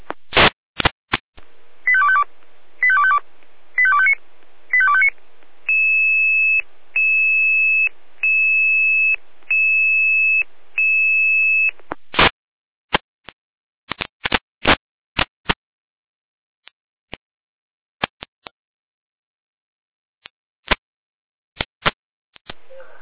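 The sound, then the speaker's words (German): Fire brigade radio alerting tones for a call-out to a burning car at the A9 exit Hermsdorf Süd: quick warbling tone bursts, then a high steady beep pulsing about six times in an even rhythm, followed by scattered sharp clicks and crackles, with no talking. “Leitet die Alarmierung.”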